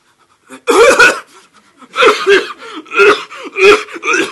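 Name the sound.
forced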